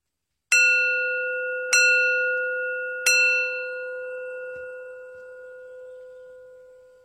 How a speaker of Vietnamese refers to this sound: Chuông giống giả thương oan hồn tuyệt lộ, chuông âm vang đánh thức kẻ cơ cầu.